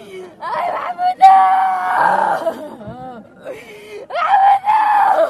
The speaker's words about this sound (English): Thirty-year-old Mahmoud was killed a week ago by one such device. His sister wails as they lower his body into the ground.